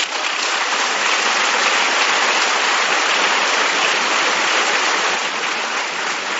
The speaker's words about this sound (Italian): E allora invito i rappresentanti di 350 distintivi d'oro ad alzarsi in piedi per ricevere il vostro applauso.